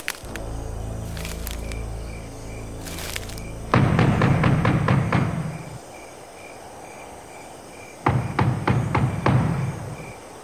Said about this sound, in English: Let's go knock on the door.